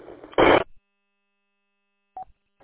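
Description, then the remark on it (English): A loud crackly burst of line noise, then a pause before short, evenly spaced telephone beeps begin, like a busy signal heard over a phone line. “Alright, sounds like you're busy.”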